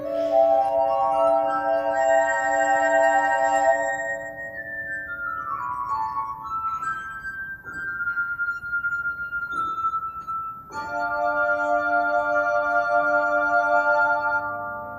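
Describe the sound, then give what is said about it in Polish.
A glass harp, an instrument built from wine glasses, rings out at a music gathering with sustained, shimmering tones from rubbed glasses, several pitches overlapping into chords that slide and shift, played alone and fairly loud throughout. “Dodajmy jeszcze, że spotkanie muzycznie, grą na szklanej harfie, instrumencie zbudowanym z kieliszków, o której wspomniała Małgorzata Szatkowska”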